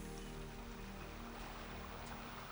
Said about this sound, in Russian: И, может быть, вам захочется поплавать в этом теплом летнем море. Вы слушаете звук прибоя, видите, как медленные ленивые волны накатывают на берег.